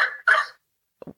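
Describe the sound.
A person's voice mimics a dolphin call: two loud, raspy, squawking squeals in quick succession, followed after a brief pause by a couple of short, low, cough-like grunts.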